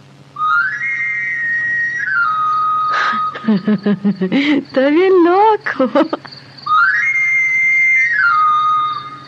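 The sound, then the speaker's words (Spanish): A knife sharpener's whistle in the street at night plays a clear, high, rising-then-falling scale of notes, heard twice, with a short spoken phrase between the two runs. “Es el afilador. ¿Pero qué andará haciendo en la calle estas horas?”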